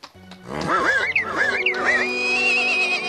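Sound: horse neighing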